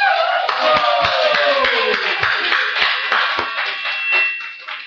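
A crowd applauds steadily after a lantern riddle performance, many hands clapping in a dense, continuous patter that stays loud for several seconds.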